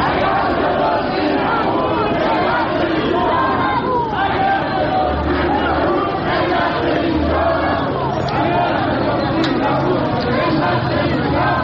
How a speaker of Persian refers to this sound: بورس تهران روز یکشنبه شاهد افتی 9775 واحدی بود و به 1,200,000 واحد رسید و همین سبب شد تا گروهی از سهامداران حقیقی در اعتراض به ریزش مداوم بورس و برباد رفتن سرمایه‌هایشان در مقابل ساختمان شرکت بورس و اوراق بهادار تجمع کرده و اعتراضشان را فریاد زنند.